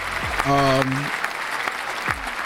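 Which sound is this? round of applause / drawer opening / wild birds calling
round of applause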